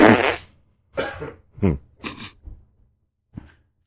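human body sound, loud fart

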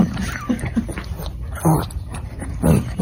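animal, dog grunting

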